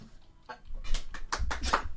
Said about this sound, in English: Oh, I'm going to sneeze.